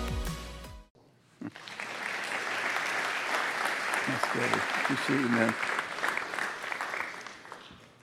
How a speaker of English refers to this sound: I don't want to sound negative, but that was an obligatory clap. I don't think that was a warm clap. Could we try that again?